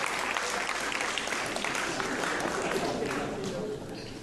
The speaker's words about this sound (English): Oh, he's really excited. He's really excited. Give him a clap.